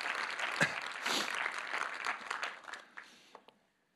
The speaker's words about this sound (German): Okay, erstmal einen kräftigen Applaus für alle anderen. Super.